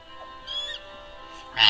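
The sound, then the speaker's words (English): A person imitates a bird call with a short nasal, honk-like squawk, followed by a louder, harsher burst at the end, with no talking. “I said it just like a bird.”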